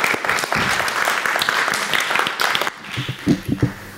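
A crowd applauds steadily for about three seconds, a dense patter of many hands clapping, then it thins out into a few scattered, louder individual claps and faint voices.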